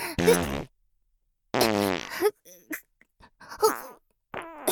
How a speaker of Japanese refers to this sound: やだマジで、何これ。おなら出る、超出る。